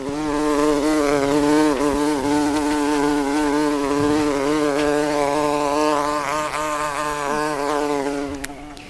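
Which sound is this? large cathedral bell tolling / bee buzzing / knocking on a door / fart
bee buzzing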